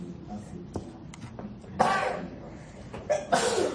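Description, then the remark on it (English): Two sharp sneezes burst out about a second and a half apart, loud, over a low background murmur during a board meeting. “God bless you.”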